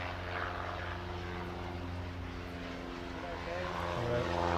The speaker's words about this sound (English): Oh, hang on, plane coming.